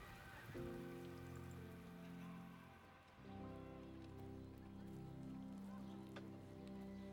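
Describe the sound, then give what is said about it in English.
Steady rain patters continuously throughout, a dense hiss of drops on a surface, mixed with sustained low tonal sounds that briefly dip around the middle. “They don't mind just standing there in the rain.”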